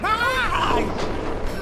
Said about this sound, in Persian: میبندمش. این پنجره هاتون چرا اینقدر شلن؟